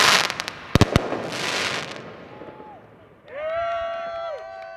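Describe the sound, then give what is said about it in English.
Sharp bangs and crackling pops of celebratory fireworks and gunfire burst out in quick clusters in the streets of Kansas City after a Chiefs win, ringing over a noisy outdoor crowd dancing in the streets, with cheering and a rising whistle-like tone near the end. “here in Kansas City, there was literally dancing in the streets. You know, celebratory gunfire and lots of fire.”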